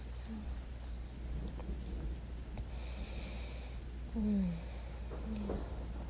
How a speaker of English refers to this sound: It's okay, you're safe. I've never known you to be scared of thunder.